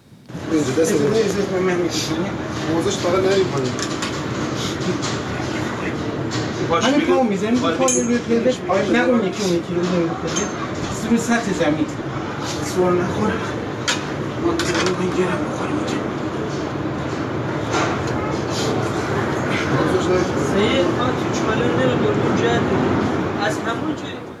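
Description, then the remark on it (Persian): Inside a train carriage in Iran: a steady rumbling hum runs throughout, with several people talking and murmuring and occasional light clinks over the noise, as a disabled passenger struggles to move through the train toward his wheelchair outside and two passengers help him. “ویلچر فردی بیرون قطاره و خودش به سختی در حال جابجایی در قطار برای نزدیک شدن به ویلچرش که دو نفر از مسافران به کمکش میان.”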